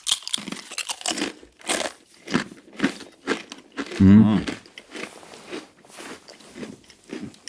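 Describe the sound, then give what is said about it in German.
Loud, sharp crunches of someone biting into salted crispbread, followed by a steady run of brittle chewing crackles, with a brief low vocal sound partway through. “Ist ganz gut, ne? Salziges Knäckebrot.”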